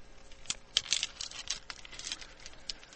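Small stones are poured by an old man into another person's cupped hands, a continuous patter of quick clicks and knocks rising and settling over a few seconds, with no voices.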